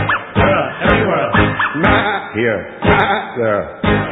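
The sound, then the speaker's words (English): A person sings a series of rhythmic "woof" sounds, vocally imitating a dog barking in a bouncy, sing-song pattern, clear. “Woof, woof here, woof, woof there.”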